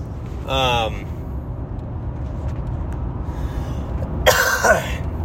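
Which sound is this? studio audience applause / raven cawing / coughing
coughing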